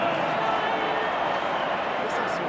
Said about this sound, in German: Hier ist übrigens der Jubel der Augsburger. Wir hören mal kurz rein. 1-0.